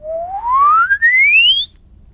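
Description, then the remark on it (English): A single pure whistle glides smoothly upward in pitch for about a second and a half, a whistled glissando demonstrating a whistling technique, clear, with a brief dip in the middle before it ends abruptly. “So these are different techniques that you can use for whistling. Glissando.”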